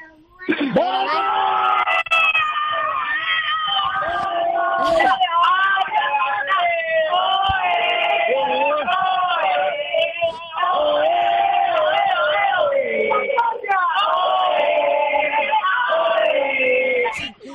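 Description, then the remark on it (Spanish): A family group at a rural house in Cerezo de Abajo shouts and cheers together over a phone line, encouraging a girl before a final: loud and continuous, with high excited yells overlapping for several seconds and a brief dip partway through. “quiero yo que ahí, en esa casa rural de Cerezo de Abajo, gritéis, animáis a la niña para la final, a ver cómo se oye.”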